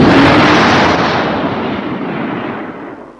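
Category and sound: nature, thunderclap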